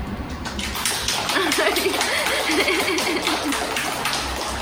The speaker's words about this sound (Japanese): 様子伺いながら拍手してくれるありがとうございます。